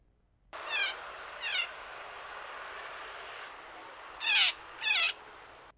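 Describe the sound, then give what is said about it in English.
A blue jay calls four times, harsh and raspy, in two pairs separated by a pause; the later pair is louder and sharper, over a steady low hiss with no talking. “If you're lucky, you might hear that one in your backyard, or in the Rogers Centre, in Toronto, Ontario, playing baseball, because that was a blue jay.”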